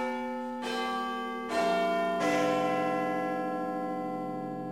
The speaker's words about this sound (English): All of that hard work for chimes every 15 minutes and bells on the hour itself. You may have heard chimes from the outside of a clock tower.